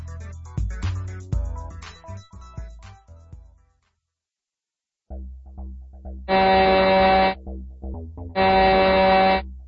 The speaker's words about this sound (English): Sirens blared through the space station. The astronauts could hardly hear their orders.